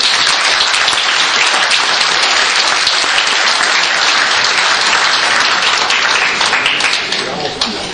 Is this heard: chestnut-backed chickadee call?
no